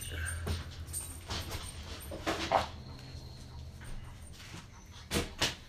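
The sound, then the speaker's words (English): A dog heads out through a door that lets dogs freely go in and out: a few soft thumps and a rattling slide of the door, with faint scrabbling, heard quietly over a low steady hum. “So dogs can freely go in and out.”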